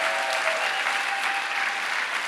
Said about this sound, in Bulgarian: Аз мисля, че би трябвало да дадем слава на Бог. Аз мисля, че би трябвало да ръкопляскаш на твоя Бог.